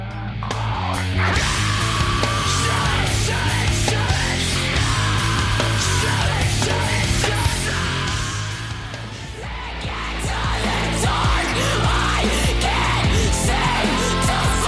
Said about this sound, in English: how about the screaming bit that you caught? That reminds me of the sort of like alt metal, new metal sounds